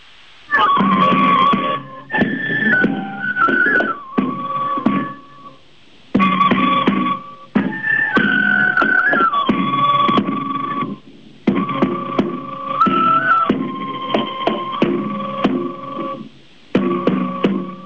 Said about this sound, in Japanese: ではここでカツラを三匹獅子舞の中で流れる太鼓と笛の音を聞いて雰囲気を味わっていただきましょう。